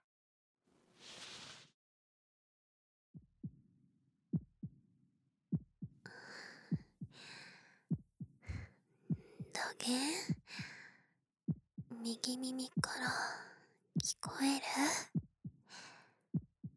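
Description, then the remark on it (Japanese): A soft sigh, then a steady, muffled heartbeat thumps slowly and quietly, heard with an ear pressed against a chest, continuing under gentle speech. “ドクン、ドクンって静かな心臓の音が鳴ったる。”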